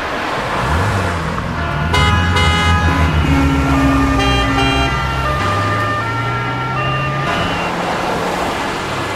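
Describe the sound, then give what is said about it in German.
Busy street car traffic in Switzerland roars steadily, with engines rumbling, several car horns tooting, and a siren-like wail woven through the continuous loud noise. “Alle Arten von Auto und Lärm, die es produziert.”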